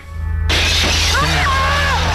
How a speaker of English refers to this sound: Hands break through the glass, drag Mike into the darkness of his closet, and that ends our movie. 1977's Phantasm.